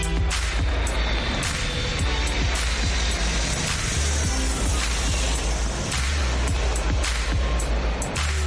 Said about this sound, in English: Attachez vos ceintures de sécurité, car tout de suite, quand je parle, on décolle.